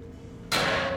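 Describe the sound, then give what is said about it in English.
After a stretch of low, quiet hum, one sudden loud metallic bang strikes on a metal pipe, followed by a bright, harsh ringing clatter that holds steady to the end. “If you can hear me, and if you can trust me, bang on the pipe.”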